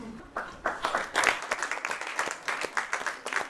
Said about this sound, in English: At the end of the performance, the actors receive the applause.